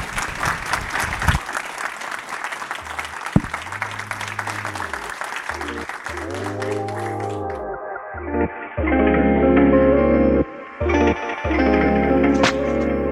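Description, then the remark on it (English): A burst of audience applause fills the opening seconds, then fades as a processed electronic jingle with swooping, echoing tones takes over and grows louder. “Everyone, hands on applause, please.”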